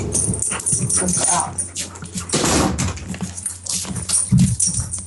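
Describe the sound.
A dog stands at the door making short barking and whimpering sounds to be let in, mixed with clattering like paws or a door, while a person talks over much of it.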